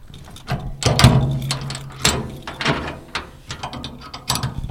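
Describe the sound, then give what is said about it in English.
Heavy metal latches and hinges clank and ratchet as the doors of 20x8 steel shipping containers for Newport schools are worked open, with a low grinding scrape around the first second and a series of sharp metallic clicks and creaks. “And they are 20x8 steel shipping containers. And let's open them up and check them out.”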